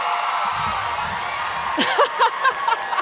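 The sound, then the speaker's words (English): A live audience at a Sawbones show in Atlanta cheers and whoops, a dense wash of crowd noise that swells with sharp bright shouts and laughter toward the end, steady and fairly loud throughout. “I turned my chair around because I thought we'd connect more and you'd cheer for me louder.”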